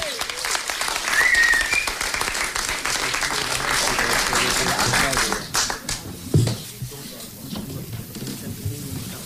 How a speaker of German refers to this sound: Und jetzt haben wir den Mann, der heute Abend so ein bisschen alle zusammengebracht hat. Und deshalb auch nochmal ein richtig fetter Applaus.